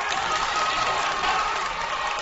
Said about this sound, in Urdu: حسنی مبارک case کی دوبارہ سماعت کرتے ہوئے جب جج نے سینکڑوں افراد کے قتل کے الزام کو خارج کیا تو کمرہ عدالت خوشی کے نعروں سے گونج اٹھا.